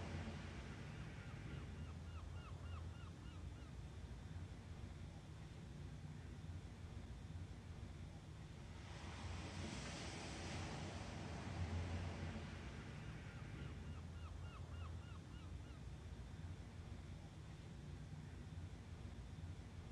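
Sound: ocean waves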